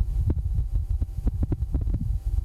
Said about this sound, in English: NASA also released audio of the first sounds ever recorded on the surface of Mars, a gust of wind captured by a microphone on the rover.